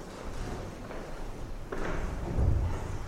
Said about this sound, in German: Das war nur ein runtergefallenes Buch? Ja. Ganz gut. Keiner vom Stuhl gefallen. Nein.